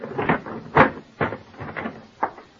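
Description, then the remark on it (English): The lid of an overfilled trunk is pushed and forced shut after a hairbrush caught between its bottom edges is shoved back in, in a series of muffled thumps and scrapes, with one louder clunk among several softer knocks and no voices. “My hairbrush between the edges at the bottom. I grabbed at it, shoved it back in.”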